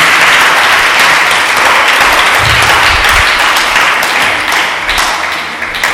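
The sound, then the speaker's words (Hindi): Loud, sustained applause from a large crowd at a Christian worship service, clapping for Jesus Christ, fills the whole clip, a dense wash of many hands clapping at once that fades slightly toward the end. “Hallelujah, यीशु मसीह के लिए जरा जोरदार तालियां देंगे।”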